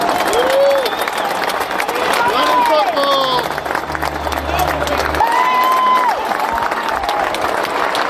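A crowd claps and cheers steadily throughout in a minute-long round of applause, a dense wash of clapping with rising whistles and whoops cutting through, and a low droning hum partway in.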